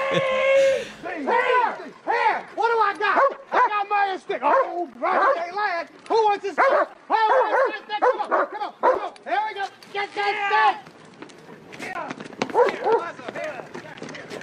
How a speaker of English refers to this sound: Sorry they interrupted your parade. They're just dogs. They don't know any better.